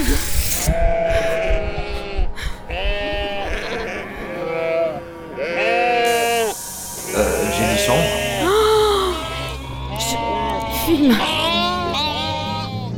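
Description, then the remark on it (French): Several frightened sheep that have taken refuge in a room bleat repeatedly and loudly, their wavering cries overlapping in a rapid, agitated chorus, with a steady low hum running underneath. “T'es pas la seule, ça a fait aussi peur aux moutons. Ils sont réfugiés dans cette chambre.”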